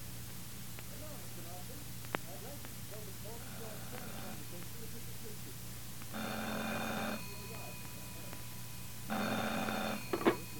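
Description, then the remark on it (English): A telephone bell rings at night in two short, buzzing bursts about a second each, separated by a pause, over a steady low hum and faint murmuring in the background. “Then, just as I got nicely off to sleep one night, the phone rang.”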